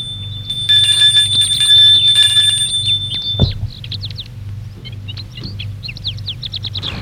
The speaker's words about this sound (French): Ils sortent de voiture. Ils sonnent à la porte.